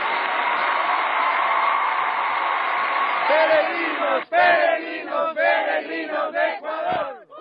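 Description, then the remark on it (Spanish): A large crowd of pilgrims in St. Peter's Square cheers and applauds as they receive Pope Francis, a loud, continuous roar which then breaks into repeated rhythmic bursts of shouting and whooping voices. “Con mucha emoción, alegría y aplausos reciben los peregrinos al Papa Francisco en la Plaza de San Pedro.”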